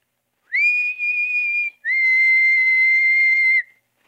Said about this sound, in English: When it grew dark, I carefully opened the window. Just a little way. And when I had it open, I put my head out and whistled softly. Like this.